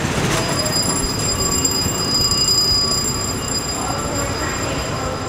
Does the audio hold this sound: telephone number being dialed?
no